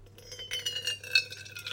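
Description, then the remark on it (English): Coffee pours steadily from a plastic jug into a travel flask, a soft splashing trickle with faint ringing tones that rise as it fills, fairly quiet, with no talking. “So you line it up with the cup and pour the precious liquid coffee.”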